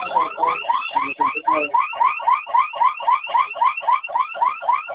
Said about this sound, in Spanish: Oye, fíjate que metí mi alarma, me encuentro en el centro de costo 38161 y metí mi código porque empezó a sonar la alarma